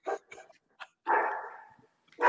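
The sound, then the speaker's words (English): A small female dog, about the size of a hand, lets out several deep, throaty barks in an irregular burst, one drawn-out bark trailing off before a final sharp one; fairly loud, with no talking. “It's got that deep throaty sound like Hercules.”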